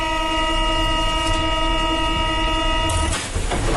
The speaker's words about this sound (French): Celui des portes de métro qui se ferment, et pour cause, il n'y en aura pas ou très peu demain.